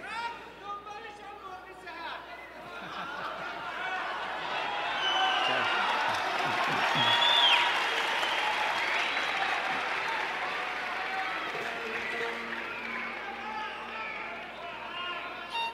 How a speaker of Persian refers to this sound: بعدش با تشویق طولانی و حضار دوباره برمیگردن رو سن